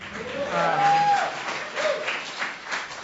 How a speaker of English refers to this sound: It's fine. You can applaud.